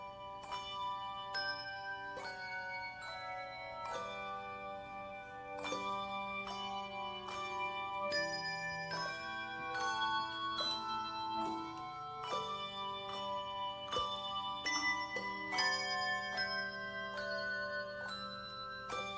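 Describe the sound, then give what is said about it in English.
A set of bells, played by a group of ringers who switched to different bells for this quiet piece, plays a gentle, slow melody, each ringing note struck clearly and left to sustain and overlap with the next, at a soft, steady volume with no voices. “Yeah, some of us play different bells for that.”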